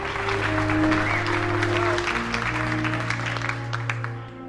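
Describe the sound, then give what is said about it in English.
The whole of CTU, a crowd of office workers, applauds Secretary Heller, a dense wash of overlapping applause lasting several seconds over a low sustained hum, easing off slightly at the end. “The whole of CTU applauds Secretary Heller.”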